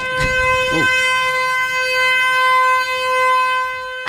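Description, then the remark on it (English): A car horn, pressed by a boxer dog left inside a parked car with the window open, blares in one long, steady, unbroken tone that stays loud for the whole stretch, with a few brief bursts of other noise cutting in over it. “Is that a car horn? That is a car horn.”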